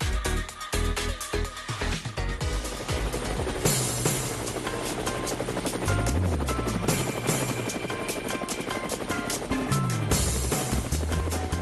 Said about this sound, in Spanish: Bueno, amigos de Cuba, llegó las aspas del helicóptero, ahí están sonando, y yo con mi nasobuco y mis guantes montándome.